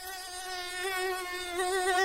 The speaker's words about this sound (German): Ist es eine Mücke?